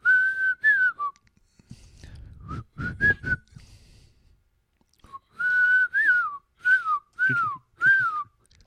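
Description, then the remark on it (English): Someone whistles a short, bright tune into the microphone, a few sliding notes, a pause with some low rustling or knocking, then another run of quick whistled notes. “Whistling into the mic.”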